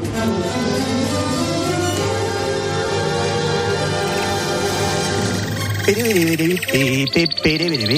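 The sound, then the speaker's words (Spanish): A short radio jingle for the segment "El trino del conciso" with Carlos Dávila: dense, sustained tones give way to a loud, warbling bird trill, its pitch wavering up and down in quick repeated ripples over the final seconds. “Suena el trino del conciso.”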